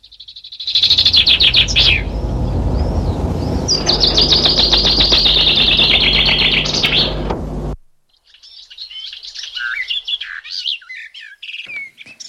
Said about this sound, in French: Pour nous accompagner dans ce voyage sonore, le chant de la fauvette des jardins ravivera nos sens et réjouira nos cœurs.